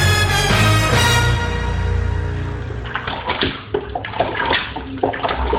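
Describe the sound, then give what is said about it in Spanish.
Flood water rushes loudly and steadily at first, then breaks into irregular sloshing and splashing bursts as the flood recedes, with no voices. “Gracias a Dios está bajando el agua. Esta inundación ha estado terrible.”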